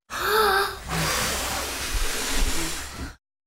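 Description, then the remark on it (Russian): A forceful, breathy blowing gust as a wolf blows at a straw house, rushing out for about three seconds, loud, opening with a brief whistling tone before settling into a steady hissing whoosh that cuts off abruptly. “Волк подул.”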